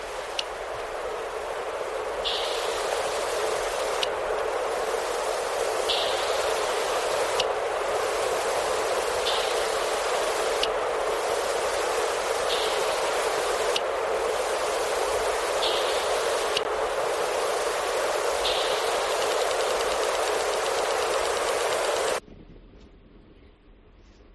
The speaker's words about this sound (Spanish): produce una especie de clic que escucha el eco de la presa y va acercándose